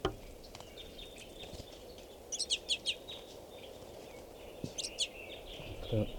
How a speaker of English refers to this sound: And there are at least 20 more birds in the tree. So there's a good 40 crossbills right here.